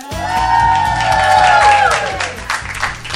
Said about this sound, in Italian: E questo applauso è per voi che avete creato questa storia